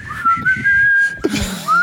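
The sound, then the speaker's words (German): A single person whistles a pop song melody, clear, with sustained tones and short gliding phrases; a few low background sounds and a brief thump occur beneath the whistling. “Und er sagt nicht viel, sondern er kommt nur rein, hält das Ding in der Hand und pfeift das die Melodie und dann wissen die Leute.”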